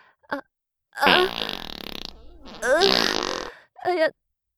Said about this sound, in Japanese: やだ、かがむと、おなら漏れちゃいます。ごめんなさい。目の前で臭いおなら撒き散らして。しかも密室だから、強烈なおならの匂い充満しちゃいますよね。